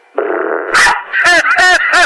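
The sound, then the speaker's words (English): A dog lets out a short, strained growl, then barks four times in quick, loud succession, with no other sounds around it. “I just farted on my dog.”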